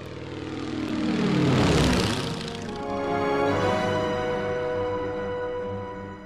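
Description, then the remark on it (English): The propeller engine of a Wright Flyer B model airplane, flying from Dayton toward Columbus at around 2,000 feet on a cold day, drones loudly overhead, its pitch sweeping downward as it passes, then settling into a steady harmonic hum as it moves away. No one speaks. “He flew up to around 2,000 feet, where it was freezing cold, it was shivering.”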